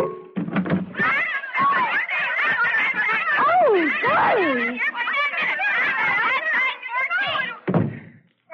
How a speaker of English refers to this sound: Had to come into my office to get away from the noise. I got a riot on my hands out there.